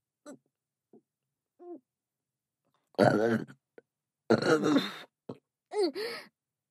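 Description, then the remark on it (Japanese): A few small vocal sounds, then loud, drawn-out burps with harmonic voiced tones, including a long rumbling one and a shorter wavering belch near the end. No words are spoken. “お腹がびっくりして、めっちゃでかいゲップ出ちまった。”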